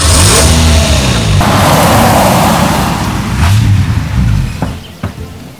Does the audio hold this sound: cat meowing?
no